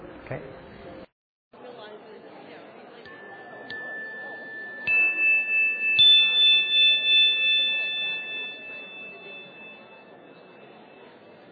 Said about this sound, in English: And there'll be a chime in 5 minutes to switch.